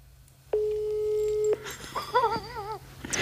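A steady electronic phone tone holds for about a second, then a short warbling, trilling ring follows as a telephone call is placed, with faint clicks and background noise around it and no talking.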